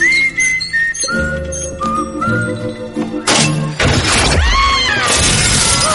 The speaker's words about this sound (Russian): Но появляется Добби, чтобы уронить на злодеев люстру. Все по заветам мультяшной логики.